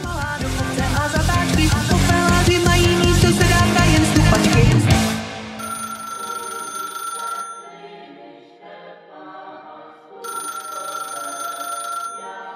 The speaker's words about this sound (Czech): A voláme telefon.